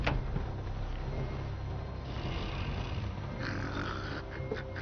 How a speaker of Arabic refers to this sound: مهلا. هذا أحد الوحوش البحرية؟ هذا شخير ألفيدا، إن أردت الرحيل فهذه فرصته.